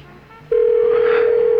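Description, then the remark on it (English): An outgoing phone call ringing on the line: after a brief quiet moment, a loud, steady electronic ring tone starts and holds unbroken to the end, with no talking. “Is it ringing? It's ringing.”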